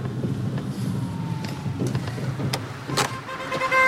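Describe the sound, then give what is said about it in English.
A car pulls over to the side of the road: a steady low engine and road rumble, broken by several short clicks and creaks, with a faint whine rising near the end. No one speaks. “then pulls the car over to the side of the road.”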